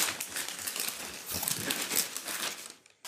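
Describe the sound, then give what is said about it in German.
Continuous rustling and crinkling of today's newspaper pages being turned and leafed through, a dry crackly sound lasting a few seconds with no one speaking. “Lasst uns mal in die Zeitung von heute schauen. Wir blättern mal durch und suchen gute Nachrichten, oder?”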